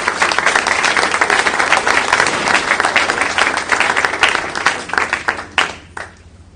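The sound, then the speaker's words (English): A crowd breaks into steady, loud applause, many hands clapping densely together for several seconds before it thins out and fades to a few scattered claps. “All right, how about a nice round of applause?”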